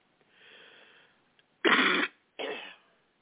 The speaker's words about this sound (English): And I apologize for coughing in your face.